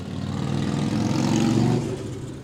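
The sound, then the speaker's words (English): A loud motorcycle engine revs up during motorcycle week, its throaty growl climbing in pitch over a couple of seconds before easing slightly as it is throttled, with no voices present. “Wait, hold on. Motorcycle week.”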